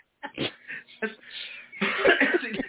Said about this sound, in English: you're gonna make me cough, dude. Hold on. I'm sorry.